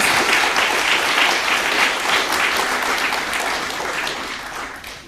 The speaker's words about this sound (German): Und nochmal Applaus.